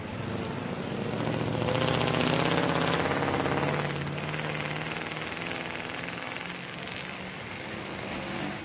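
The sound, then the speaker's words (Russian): Steady roar of heavy car traffic on a busy one-way street leading up to a hospital, with low engine hum and tire noise that swells as vehicles pass in the first few seconds, then settles into a continuous drone. “Улица с односторонним движением. На улице очень много машин.”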